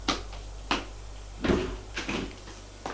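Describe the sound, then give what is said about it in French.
Two sharp knocks on a door a half second apart, followed by the rattle and thump of the door being opened as the maid enters. Low steady hum underneath, no voices. “On frappe à la porte.”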